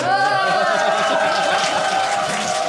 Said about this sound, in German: Ich wollte gerade sagen, Applaus haben wir gekriegt.